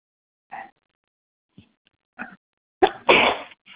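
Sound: sneeze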